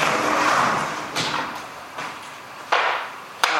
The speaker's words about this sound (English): I wonder what's happening out there, or if you guys can hear that or not, but it's maybe a big truck or something.